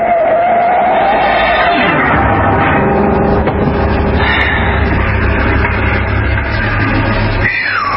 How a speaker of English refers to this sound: the yellow car gunned up in the rearview mirror